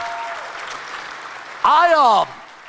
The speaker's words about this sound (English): Come on, let's give everybody that believes in the power of God a big hand clap in here. Amen.